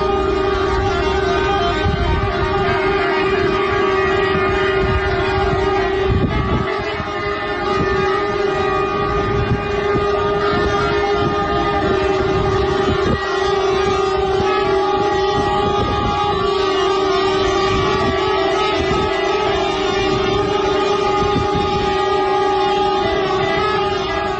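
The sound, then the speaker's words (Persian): A dense, continuous chorus of truck air horns blares at once as drivers of hundreds of trucks at Bazargan customs on the Turkish border protest repeated outages of the customs electronic system; several steady overlapping tones are sustained loudly for the whole stretch with no pauses, and nobody speaking. “رانندگان در این اعتراض همانطور که شنیدید بوق کامیون‌های خود را به صدا درآوردند.”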